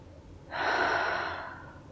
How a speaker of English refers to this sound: Place your left hand down on your sternum and take a deep breath. Feel your chest fall as you exhale.